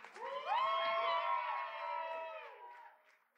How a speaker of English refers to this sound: Another huge round of applause